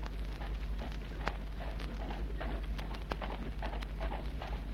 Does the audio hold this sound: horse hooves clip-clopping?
yes